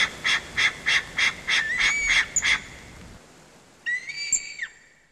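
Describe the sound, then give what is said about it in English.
A high-pitched crow call blown on a game call: a quick run of about eight evenly spaced, nasal caws, then a pause and a longer wavering call. Fairly loud, with no talking. “These are the days to give your calls in a high-pitched call.”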